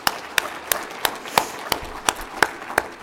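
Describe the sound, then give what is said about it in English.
An audience at an Alcoholics Anonymous meeting claps for newcomers in a steady, even rhythm, about nine sharp, crisp claps in three seconds, with no one talking over it. “I'm going to give you guys a clap.”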